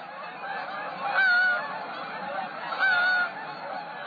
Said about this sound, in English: When do you hear migratory Canada geese flying overhead in the darkening autumn sky?